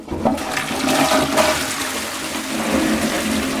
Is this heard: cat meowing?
no